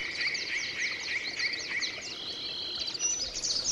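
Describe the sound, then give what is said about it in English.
A yellow-breasted chat, a large warbler, gives its chattering call in a tangle of shrubs along Coal Creek in the rain: a quick run of about seven repeated, clipped notes, then a longer buzzy phrase, over a steady hiss of rain and background insects. “A tangle of shrubs like this is where these large warblers like to nest. They are aptly named and chatter away practically nonstop in late spring.”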